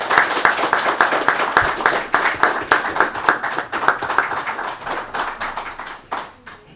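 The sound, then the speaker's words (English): A crowd applauds individuals being presented with citations, dense overlapping hand claps sustained at steady volume before thinning out into a few scattered claps at the end. “If you all would join me in a round of applause for these individuals.”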